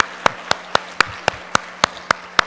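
Steady rhythmic clapping: about ten sharp, crisp claps land at an even, brisk pace over a soft background hiss, with no one talking, as an audience applauds the married couples who came together and stood up.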